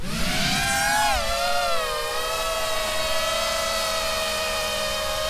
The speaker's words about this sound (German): Dieses Surren bedeutet an der Front in der Ukraine oft den sicheren Tod. Es stammt von einer kleinen, sogenannten FPV-Drohne, First-Person-View, gesteuert durch eine Brille wie in einem Videospiel.